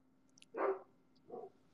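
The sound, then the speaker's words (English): An angry dog barks twice, two short, separate barks with a pause between them, fairly quiet, with no talking. “And the dog is mad.”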